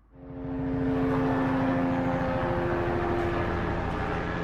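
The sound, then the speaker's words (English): A police helicopter flies overhead above a pileup of cars on a highway in Johannesburg, South Africa, its engine whine and rotor chop rising quickly to a loud, sustained roar that holds throughout. No one speaks. “A police helicopter flies over a pileup of cars on a Johannesburg highway.”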